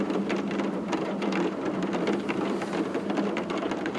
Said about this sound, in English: Somewhere in Moscow this year, a person stood in silence and held their phone up and just listened to rain.